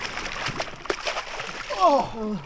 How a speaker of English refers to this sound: Hey, now should we swim? Simmer, to the island? Okay. We ploughed through the almost transparent water like dolphins. Though one dolphin was a lot younger, quicker, and less asthmatic than the other.